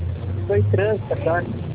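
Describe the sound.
Street traffic noise comes through a narrow, muffled phone line: a steady low engine rumble underneath short bursts of a person talking, loud throughout.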